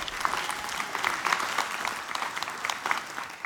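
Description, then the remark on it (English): A church audience applauding steadily to welcome the discipleship pastor up to speak, a dense wash of many hands clapping at an even, sustained level with no voices standing out. “Would you give a big welcome to Pastor Sean?”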